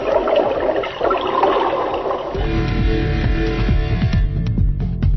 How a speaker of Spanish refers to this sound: Adivina quién soy. Cuanto más lavo, más sucia voy. El agua.